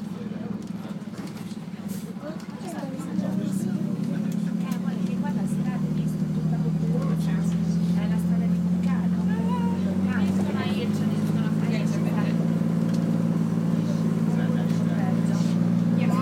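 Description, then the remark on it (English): A coach engine drones low and steady from inside the vehicle as the coach goes down a steep slope over rocks, growing louder after a few seconds, with scattered rattles, clunks and jolts as it bumps up and down, muffled voices faintly underneath. “It's a very strange feeling to be in a coach that's doing this.”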